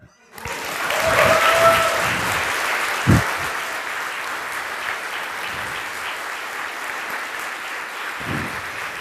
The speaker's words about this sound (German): Der Applaus gerade eben entschädigt sehr für die letzten 4 Tage.